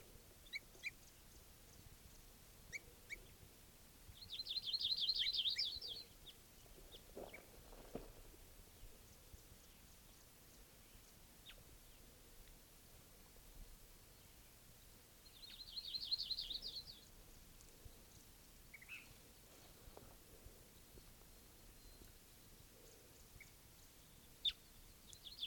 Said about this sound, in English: Start recording again, that same bird.